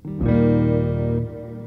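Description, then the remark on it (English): A single electric guitar chord rings out through a clean reverb pedal, sustaining steadily for about a second before dropping into a soft, lingering wash. No one speaks. “Such a clean reverb.”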